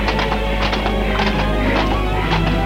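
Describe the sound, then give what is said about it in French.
A rented horse clops along at an unhurried walk in the Bois de Boulogne, ridden side by side with another rider, the hits falling in steady paired beats over a low, constant background rumble, clear. “a loué un cheval. Ils vont au bois de Boulogne, au pas, l'un côté de l'autre, se parlent de tout et de rien.”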